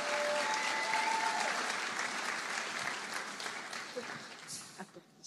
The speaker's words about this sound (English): So come on up, ladies. Let's give them a big, big round of applause.